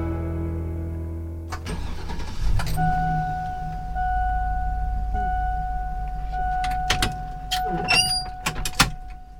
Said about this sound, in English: That's a sound you might recognize. It's a school bus starting up and opening the door for riders. Lots of kids, maybe you, get to school by riding the bus.